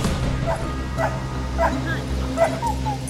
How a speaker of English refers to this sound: You brought dogs out here. Yes. We provided them a scent that we collected of Mr. Parker's clothes and also off of his patrol car. And they ran as they alerted to his scent all up this hill and all back down this way,